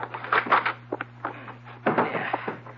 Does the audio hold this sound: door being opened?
yes